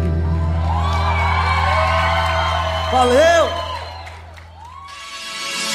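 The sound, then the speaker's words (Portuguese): A crowd of fans cheers loudly with rising whoops and shouts, a voice calling out above the din; the roar swells around the middle, then fades before a burst of noisy hiss. “A torcida se encontra por aqui.”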